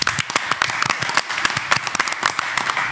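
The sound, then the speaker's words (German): A small group claps live in a studio, with dense, irregular hand claps, fairly loud for a few seconds, without any speech over them. “Komm, ich spiele mal keinen Applaus ein, wir machen mal einen Live-Applaus.”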